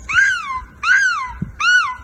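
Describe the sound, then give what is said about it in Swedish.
A person dressed as a gull, competing in a European Championship of gull screeching, imitates a gull's screech with three loud, harsh wailing calls in a steady rhythm, each sliding up in pitch and then trailing down, with brief pauses between them. “Men sen är det också 25% kostym, så att de här jepparna som håller på med EM i måsskrik är alltså utklädda till måsar och sen låter de så här då.”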